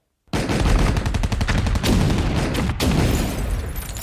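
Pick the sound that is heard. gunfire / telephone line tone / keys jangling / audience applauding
gunfire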